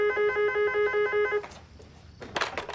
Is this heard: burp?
no